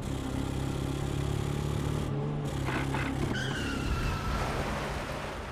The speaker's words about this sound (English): Routing him from his hideout, the Northsiders pursued him relentlessly in a high-speed car chase, where Weiss hung out of his car window, emptying his guns into Jenna's car as Bugs Moran reloaded for him, until finally, the bullet found its mark.